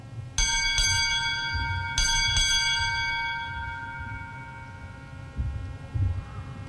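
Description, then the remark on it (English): A ship's bell is struck four times in two quick pairs at a United States Navy change of command ceremony, each clear metallic strike leaving a long shimmering tone that slowly fades over a low background rumble. “Time orderly. Strike. Four bells.”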